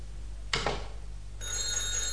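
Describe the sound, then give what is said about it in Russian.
A telephone bell starts ringing after a short rattling clatter, its bright metallic trill continuing steadily and fairly loud to the end, with no one speaking. “Выключите телефон.”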